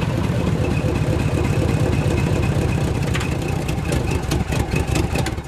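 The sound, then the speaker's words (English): The engines of two cars laden with people and belongings rumble steadily at low revs, fairly loud, easing slightly toward the end as the cars slow to a stop in front of a station. “Out the front window, two cars laden with people and belongings slowed to a stop in front of the station.”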